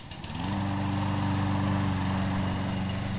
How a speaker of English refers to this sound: It was 7:15 in the morning, a Saturday, when the lawnmowers came back. Two of my neighbors, one near and one far, had seen the checkered flag of summer and were off and cutting.